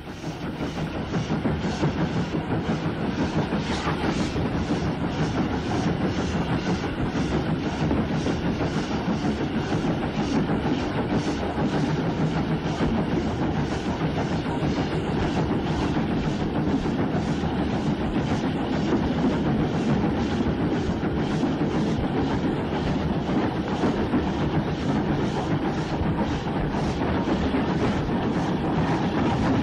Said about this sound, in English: Starting from Kirstorfen, the train eventually found its way to the branch from Monkton Hall Junction, and the Jai 36 060 number 65345 is heard climbing the steep gradient to Smeaton.